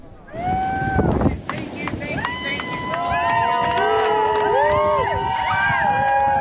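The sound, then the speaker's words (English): A crowd of supporters cheers outdoors as a runner strips down and runs into the ocean, with many overlapping whoops and shouts rising and falling in pitch, swelling louder and steadier after the first few seconds, over a rough gust of wind or rushing noise. “Then he strips down and runs into the water.”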